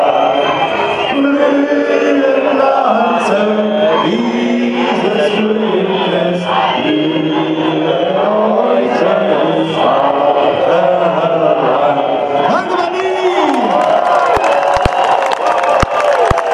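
A large demonstration crowd on Washington Place on 30 July 2016, as the march and speeches end, cheers and shouts continuously, a dense roar of many voices with rising and falling tones, occasional whoops and whistles, and scattered sharp claps toward the end.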